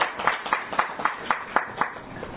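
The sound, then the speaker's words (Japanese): A group at a church claps in steady, even rhythm to celebrate the church head's return after three weeks, about nine crisp claps in a little over two seconds, with no voices over the applause. “まあ、実に3週間ぶりのことでございまして、ちょっと皆様方拍手でお祝いをさせていただきます。”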